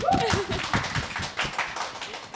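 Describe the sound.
A short burst of applause welcoming a latte art instructor at the start of a latte art session: a few people clapping in quick, uneven rhythm at steady moderate loudness, with a brief voice at the very start.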